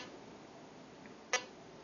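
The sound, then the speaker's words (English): A food thermometer in scan mode, its button held down, gives one short, sharp beep partway through, with a long quiet gap of faint hiss around it, giving a slow beeping pace. “And you can hear the beeping is pretty slow.”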